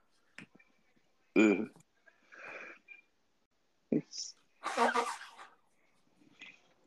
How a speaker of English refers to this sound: Wow. Sounds just like a regular person blowing their nose. Yeah, you would never assume that that was a gay person's nose. Right. I mean, it sounded exactly normal to me.